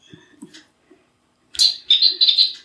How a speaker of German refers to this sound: Das ist die Uhr, über die wir es gerade schon hatten. Die macht jede Stunde ein Vogelzwitschern.